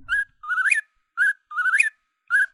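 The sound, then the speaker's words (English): A whistled imitation of an eastern whip-poor-will call, a nightjar: a short note followed by a longer, rising, swooping phrase, repeated twice and then cut off, clear with no talking. “It was a whip poor will, which is a nightjar.”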